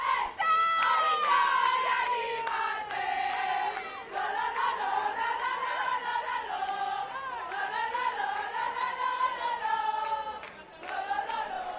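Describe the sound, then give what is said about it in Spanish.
Supporters of the Orio rowing crew, which won the flag in the women's category, sing loudly together in a street of the old town of Donostia, many voices carrying a rising and falling chant-like melody that continues steadily for the whole stretch, with shouts mixed in. “Escucháis el sonido ambiente ahora mismo aquí en una de las calles de la parte vieja de Donostia”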